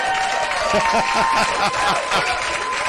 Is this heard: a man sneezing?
no